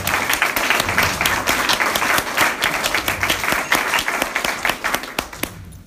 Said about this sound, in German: Auch dazu ein Applaus, dass der Jürg am Hochzeitstag da sein darf.